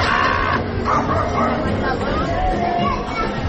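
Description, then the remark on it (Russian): A dense, steady wash of crowd chatter from many overlapping Spanish-speaking voices fills a busy Andalusian street, loud and continuous. A few sharper barks of dogs cut through the babble. “Сложнейшая полифония, в которой смешаны пение птиц, детский лепет, шум байкеров, бурлящая лава испанской речи, грубый смех, обрывки композиции уличных музыкантов и лай собак.”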